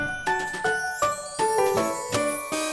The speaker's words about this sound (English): I and J and K and L, stand up and ring the bell.